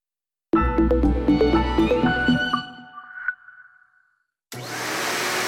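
A short melodic jingle of bright tones fades out, then after a pause a vacuum cleaner switches on abruptly, its steady loud whooshing roar filling the final second.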